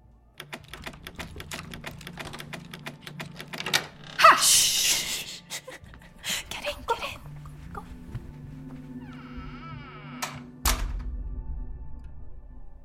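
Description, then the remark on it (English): The locked door handle of Dalton Thorne's home is jiggled to try to get in, giving off rapid, uneven metallic clicks and rattles, with a louder scraping burst partway through and a few dull thunks near the end. “Perhaps he forgot to lock it.”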